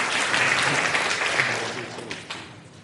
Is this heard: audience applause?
yes